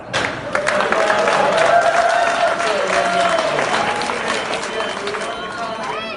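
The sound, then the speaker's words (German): A large indoor auction audience at Sotheby's in London bursts into loud, overlapping exclamations of astonishment and excited chatter, a dense hubbub of many voices that stays steady for several seconds before easing slightly. “kam das Publikum aus dem Staunen nicht mehr heraus.”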